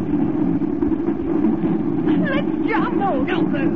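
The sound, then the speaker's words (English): A mine car barrels fast down a mine shaft with a loud, steady rolling rumble throughout, and sharp high squeals and wavering cries flare up over the roar toward the end. “We're going too fast to jump.”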